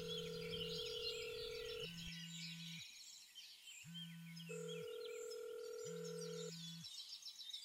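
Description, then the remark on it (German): A telephone ringing tone on a call, with steady electronic tones alternating in roughly one-second bursts, a low beep and a higher one, over continuous birdsong chirping in the background. “Wen rufst du denn an, Frederik? Wirst du gleich schon sehen. Als es klingelt”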